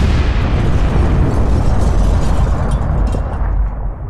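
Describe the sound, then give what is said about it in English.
A remotely detonated bomb explodes at a house's front door, blasting a 30-inch hole through the brick front wall: a loud, deep blast whose heavy rumble rolls on for several seconds, crackling and roaring before easing off slightly at the end. No voices are heard. “when they found the chicken man's body, it had been blasted through a 30-inch hole in his house's front wall, shredded through brick, mortar, and drywall.”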